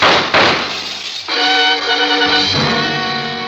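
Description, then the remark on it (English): Two sharp, loud gunshot cracks in quick succession, with the bullets fired from outside, followed by a bright, ringing shatter of window glass that keeps tinkling at high pitch for a couple of seconds. “The bullets had come from outside. I moved to the shattered window and looked out.”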